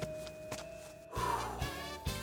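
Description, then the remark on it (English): A few heavy footsteps thud at a slow, uneven pace and grow a little louder, as if someone is approaching, over a sustained tonal background. “I heard footsteps.”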